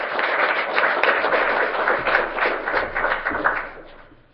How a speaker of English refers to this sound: Let's just give one more round of applause to all those that presented today and also all the judges that have, you know, taken their time out to come here and listen to all these presentations.